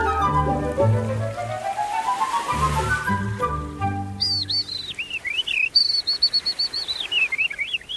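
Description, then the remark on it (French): A Eurasian skylark sings a continuous, high-pitched warbling stream of rapid chirps and trills. It enters about halfway through, following a lower, sustained tonal sound. “L'alouette des champs, elle chante durant 13 minutes.”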